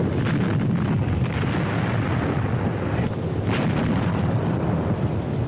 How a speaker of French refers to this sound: L'artillerie russe les pilonne.